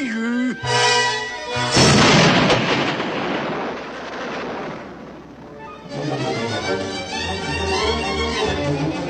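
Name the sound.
grenade explosion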